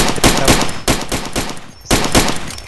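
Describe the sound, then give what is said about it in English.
Rapid bursts of gunfire from the video game Far Cry 2, loud sharp shots in quick succession with a brief pause, and the light tinkle of shell casings falling between shots, with no echo trailing off. “The shell casings. There's no echo either.”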